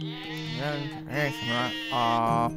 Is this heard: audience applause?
no